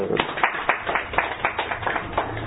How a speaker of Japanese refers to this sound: 僕は今日はみんなのために紙芝居を用意してきました。拍手。